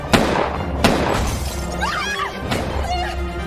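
Two sharp, loud bangs about a second apart, followed by glass shattering and tinkling debris, with a third impact later; close and forceful, no talking.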